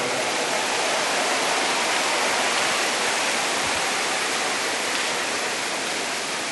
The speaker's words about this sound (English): And I think we should give the Lord another round of applause for the choir.